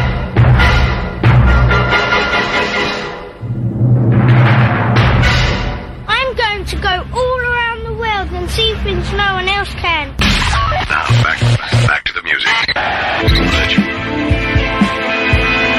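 A loud rock song plays throughout, with dense, full-band instrumentation, a steady heavy low end and a wavering, bending melodic line standing out in the middle stretch.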